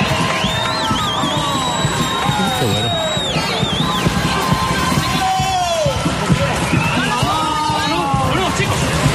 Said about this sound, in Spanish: Actuación que además escucha, recibió una gran ovación de todo el teatro.